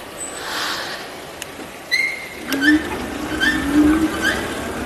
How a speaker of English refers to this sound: It's nice I've got squeaky brakes.